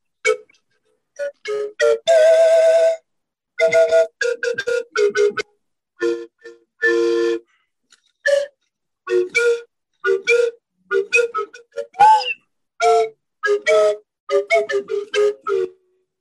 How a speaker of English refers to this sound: It's called a Flutivarius. It's a double, let's see if I could raise it. Show you this. This is a double slide whistle. I'll give you a little playing.